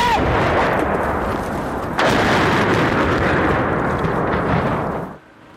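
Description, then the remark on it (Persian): Heavy gunfire and explosive blasts during Russian air strikes on Chernihiv in northern Ukraine merge into a dense, roaring barrage that swells louder partway through, then cuts off abruptly near the end. No voices are heard. “نیروهای روسیه حتی به خودروی این خبرنگاران خارجی هم تیراندازی کردند.”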